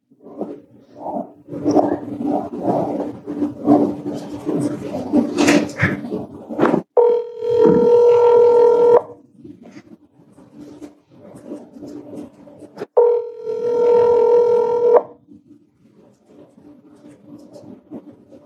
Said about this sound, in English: This is a recording on December 8th at 3:43 p.m. And I am calling Chad Daybell's phone number. And hopefully I will be talking to both of them, Chad and Lori. So here goes the phone call.